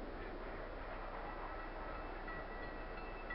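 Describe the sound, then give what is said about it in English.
A passenger train bound for Denver rolls steadily along the rails, a continuous, even rumble with a soft rattling hiss and no pauses or voices, fairly subdued throughout. “Yeah, does this train go through snow?”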